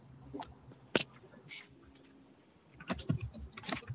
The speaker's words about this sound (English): I can hear your keyboard.